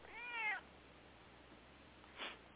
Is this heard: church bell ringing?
no